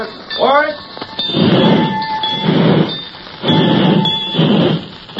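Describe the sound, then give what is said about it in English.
Rail station depot ambience with a train idling as passengers get off: steady rumbling bursts, faint metallic clinks and a thin ringing tone, while people talk throughout. “I'm not so old yet that I have to be lifted off a train.”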